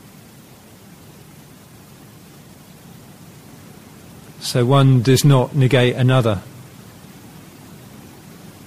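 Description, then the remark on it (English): Steady, soft rain hisses evenly throughout, an unbroken wash of noise with no distinct drops, while a voice speaks briefly in the middle over it. “Notice the quality of the way that our sound now, our ears get pulled out, the noise of the rain, and whether we can stay with the noise of the rain, our breath, and the palms of our hand.”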